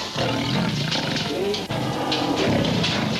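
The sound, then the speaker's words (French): Circus lions roar loudly and continuously, deep rumbling growls overlapping one another with a brief dip midway before the roaring swells again, no speech. “On avait un beau cirque. Des beaux lions.”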